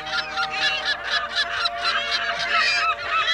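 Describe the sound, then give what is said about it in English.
A noisy flock of California gulls calling together, harsh overlapping squawks in quick, pulsing bursts that run continuously and fairly loud, with no one speaking. “These were California gulls, Larus californicus, year-round residents of the Salt Lake area in Utah.”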